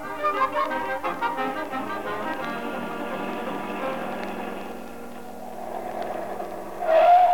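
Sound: car driving away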